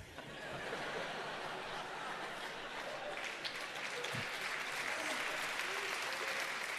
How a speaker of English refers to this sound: Well, thank you. That was a mercy applause. Mercy applause.